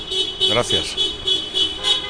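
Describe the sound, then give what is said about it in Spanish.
Car horns of passing cars honk in the street in front of the door of the Ferraz headquarters, in a series of short, repeated toots, while a voice briefly speaks over them. “A todos los que están pasando por delante de la puerta de esta sede de Ferraz, si quieren tocar el claxon, háganlo tranquilamente, a la par que nos escuchan.”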